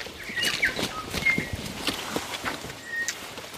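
Boots squelch through wet mud in a steady, irregular walking rhythm as someone walks up a hill on Anchor Island, the trails soaked by heavy rain, with a few brief bird chirps in the background and no talking.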